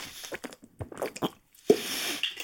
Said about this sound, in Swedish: Åh, klunk. Evian från Frankrike.